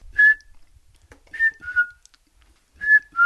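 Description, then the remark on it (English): A man whistles an imitation of the call of the piping plover: clear, sweet, high piped notes given singly and in pairs, with short pauses between them, and no talking. “uttering the call of the piping plover. Very sweet call, although it can be very strident.”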